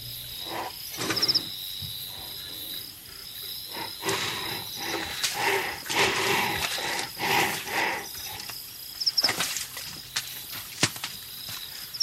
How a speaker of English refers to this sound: Three species that I've recorded are now in museums where you push a button. The northern white rhino.